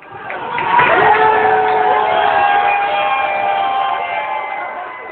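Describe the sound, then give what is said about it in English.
A bar crowd at the Phoenix Landing Bar in Cambridge erupts in cheering while watching the USA-Iran men's World Cup soccer match, a loud sustained roar of many voices with whistles and yells that swells in the first second and holds steady before easing slightly. “Sound there from USA-Iran match as watched at the Phoenix Landing Bar in Cambridge.”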